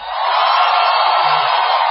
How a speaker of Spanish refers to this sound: Ahora pueden gritar los de adentro.